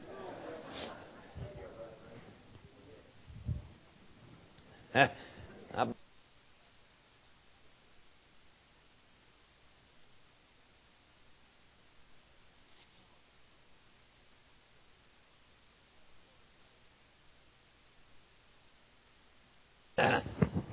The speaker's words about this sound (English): All right, I got to blow my nose. Hang on.